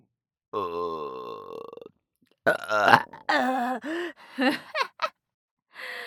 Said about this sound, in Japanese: 私、アイドルやってんのにゲップ出しまくりで笑える。てか、腹めっちゃ膨らんでんだけど。